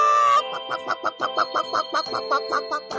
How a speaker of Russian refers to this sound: Настоящая курица на настоящем радио.